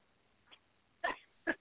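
A dog gives two short, sharp vocal bursts about half a second apart, preceded by a much fainter, briefer sound, during a call to The Brilliant Ideas radio show; nobody talks over them.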